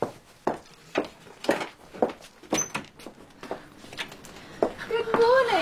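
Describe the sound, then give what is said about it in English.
A door creaks open, its hinge squeaking upward at the end, after a run of soft knocks and footsteps moving around. “Would you get the door, please,”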